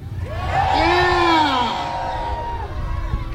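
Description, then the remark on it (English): A crowd yells and cheers together in one loud, sustained burst, with rising whoops and shouts layered over a dense roar of voices that gradually eases off, as people shout for the start of an attempt to squish a van. “All right, can everyone who wants him to start this thing yell right now?”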